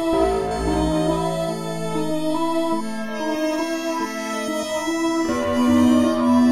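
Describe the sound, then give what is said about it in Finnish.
Sustained organ chords swell together with bowed strings in a Spaghetti Western-style piece, a dense, steady harmonic wash that holds throughout and grows slightly fuller near the end, with no voices present. “Ja pikkuhiljaa nostamme mukaan urut. Lisätään joukkoon myös jouset.”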